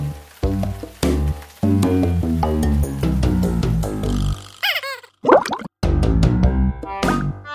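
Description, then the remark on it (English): A bouncy musical tune pauses for a comic plop, a quick wobbling, bending sound of a frog jumping into pond water, before the music picks up again. “So he jumped in the pond again.”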